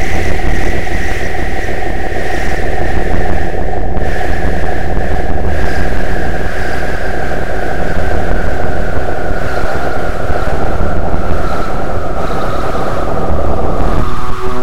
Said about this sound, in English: So let me turn up a little wind. Okay, a lot of wind.